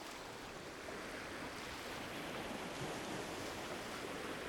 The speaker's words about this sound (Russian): Море лениво плескалось, нехотя облизывая влажным языком краешек пустынного пляжа. Она шла по щиколотку в воде, чувствуя ласковое прикосновение волн, которые лениво накатывались на песок, а потом нехотя откатывались обратно